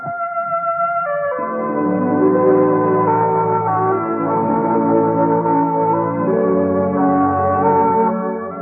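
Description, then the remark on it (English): The familiar three NBC Radio network chimes ring out as clear, sustained bell-like tones that shift pitch early on and then linger and overlap, fairly loud, with no voices. “Yes, for the best in Friday night radio entertainment, remember to tune where you hear the familiar three chimes for the Bob Hope Show and the Phil Harris Alice Faye Show.”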